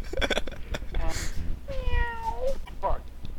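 Several cats meow in quick succession, one drawn-out, wavering meow standing out in the middle between shorter cries, clear over a low background rumble.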